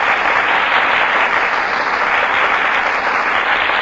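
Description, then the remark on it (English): Steady, dense applause from a large studio audience for Annabella and Tyrone Power as they enter the Gulf stage, a continuous bright wash of many hands clapping at even loudness throughout, with no voices over it. “That applause, ladies and gentlemen, is for Annabella and Tyrone Power, who have just entered the Gulf stage and have taken their places before the Gulf microphone.”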